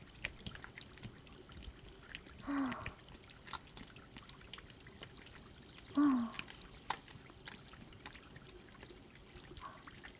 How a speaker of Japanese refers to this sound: そしたら今作った泡で蛇口のハンドルも洗っちゃいましょう。